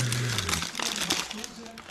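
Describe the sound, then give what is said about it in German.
Crinkly rustling of a small bag as a person reaches into it with eyes closed, a steady run of irregular crackling bursts with a faint low voice murmuring beneath. “Willst du mal Augen zu machen und reingreifen? Es ist eine kleine Tüte.”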